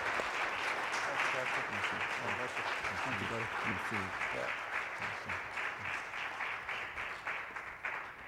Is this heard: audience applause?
yes